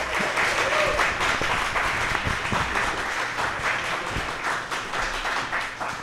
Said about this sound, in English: Another round of applause for Woodja, everybody.